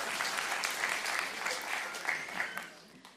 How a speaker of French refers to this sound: Ça, c'est la confiance. Merci beaucoup. On vous l'applaudit.